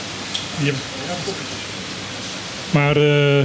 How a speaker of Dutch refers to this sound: Dan hoor je opeens die regen heel, heel goed.